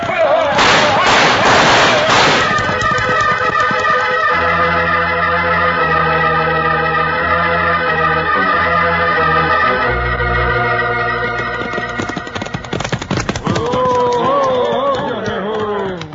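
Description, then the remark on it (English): Gunfire in a shootout with bushwhackers: rapid bursts of shots crackle at the start and again near the end, set over loud, sustained orchestral music with a deep bass line. “Go after them, shoot.”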